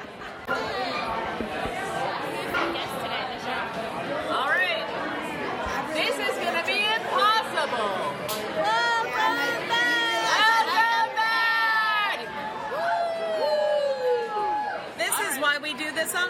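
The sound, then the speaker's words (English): A dense, loud hubbub of many overlapping voices chattering at once at a live show as people get drinks, with bright higher-pitched exclamations and laughter rising out of the steady babble throughout. “It's so loud.”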